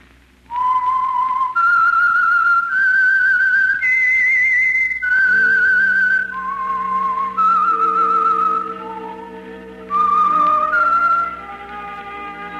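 whistled theme melody

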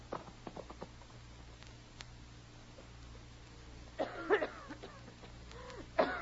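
woman coughing

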